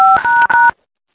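A quick string of phone keypad beeps on a conference call: three short, steady dual-tone presses in rapid succession, fairly loud, then silence. No one speaks.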